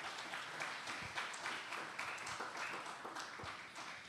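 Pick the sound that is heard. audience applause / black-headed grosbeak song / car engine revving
audience applause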